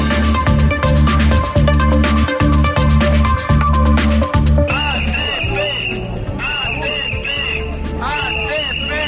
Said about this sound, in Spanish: Son los gritos que reivindican los agricultores a título principal de la Unión de Campesinos que hoy se han manifestado en la calle Vitoria frente a la subdelegación del Gobierno de Burgos.